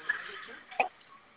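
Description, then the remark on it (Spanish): Two short, faint electronic beeps from the hash key being pressed on an alarm keypad, spaced well apart, heard over a thin, muffled phone line with no talking. “Vamos a presionar tecla de gato 3 veces.”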